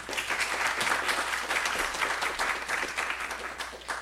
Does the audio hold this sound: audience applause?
yes